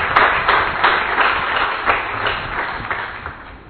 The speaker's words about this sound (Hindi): एक जोरदार ताली हमारे सैनिकों को।